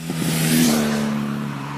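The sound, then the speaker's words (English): Loud, steady roar of car engines in a rural village in Germany on a sunny weekend, with a low droning hum and a harsh, broad rush on top, swelling briefly then holding at a constant level with no voices. “Instead of enjoying their morning coffee on the terrace, they stay indoors and shut all the windows to escape the roar of the engines.”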